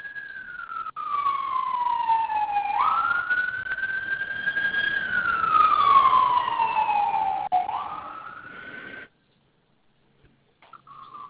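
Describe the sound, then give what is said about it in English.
An emergency vehicle siren wails outside on a major crosstown road, its pitch sweeping slowly up and down, fairly loud and steady for about nine seconds before cutting off abruptly into near silence. “I can hear sirens in the back.”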